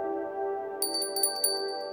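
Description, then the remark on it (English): A bell rings with a steady, humming low tone, and partway through a few bright, high-pitched chime strikes sound in quick succession over the lingering resonance. “Yes, a bell.”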